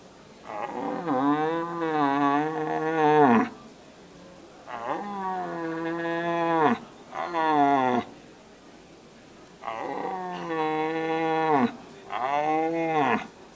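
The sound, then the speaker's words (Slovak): A person imitates the roar of a young searching red stag: five drawn-out, moaning bellows, fairly loud, each sliding down in pitch before levelling off, with short pauses between. “Takže taká základná disciplína alebo hlas, ktorý by každý jeleniar mal ovládať, je hľadajúci jeleň. Ideálne mladý hľadajúci jeleň.”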